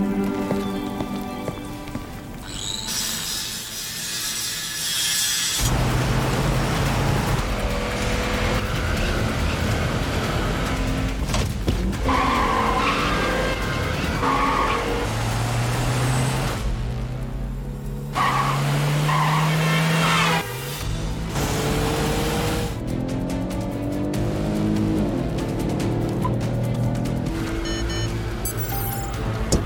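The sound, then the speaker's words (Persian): A loud, busy car chase: engines rev and rise in pitch while tires skid and squeal, layered over a steady wash of rain on the road, with no talking. The pursued car has a GPS tracker. “اون ماشین موقعیت یاب داره. این تقیب آگوریس بیفایده است.”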